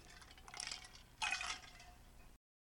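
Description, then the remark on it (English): A drink poured and sipped as a toast to a 16th wedding anniversary: two short bursts of liquid sound, the second louder, with no voices and a quiet ending. “Floydian Trooper, happy 16th anniversary. I'll drink to you.”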